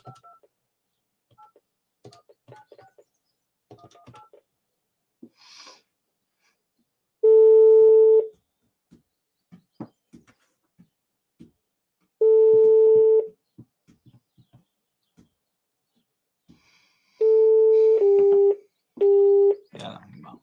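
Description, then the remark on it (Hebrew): Telephone keypad tones sound out as a phone number is dialed to return a call, with several clear, sustained beeps, each about a second long, and the last few coming in quick succession. Faint clicks and soft background noises fill the pauses. “היה פה טלפון, אני רגע אחזור אליו.”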